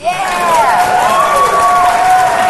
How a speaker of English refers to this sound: Yeah! Much more popular. You clap for anything, man.